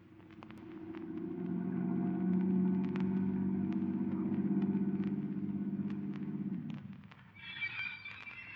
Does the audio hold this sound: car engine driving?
yes